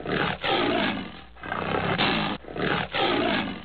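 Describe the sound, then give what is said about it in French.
A tiger roars loudly, a series of deep, rough roars and snarls running back to back with only brief breaks, no voices present. “À la longue, le félin s'était habitué à voir cette jeune femme près de lui.”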